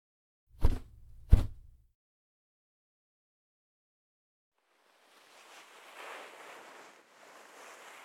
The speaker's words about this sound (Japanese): 泡がだいぶ減ってきましたね。最後に温かいタオルでお耳の泡を拭き取っていきます。